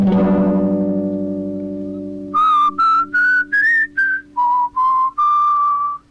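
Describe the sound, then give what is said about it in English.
After a low ringing note fades out, someone whistles a short melody: about eight clear, separate notes climbing step by step, then dropping lower before holding the last tone. “In this case, I will hear it first in my mind, and then I will whistle it for you.”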